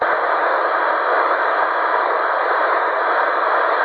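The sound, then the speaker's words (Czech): Continuous radio static during an attempted radio call between call signs, a loud, even hiss filling the whole few seconds with no voices breaking through, the signal fluctuating in and out, like an open channel with no signal. “To je kolísání, to je hrozný, tyjo.”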